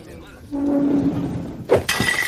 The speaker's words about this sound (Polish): Ej, co mi kubki tłucze? Odłóż to zaraz i zostaw, że moich gości w spokoju, bo ci więcej kufla nie napełnię.